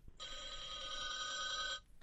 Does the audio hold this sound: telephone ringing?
yes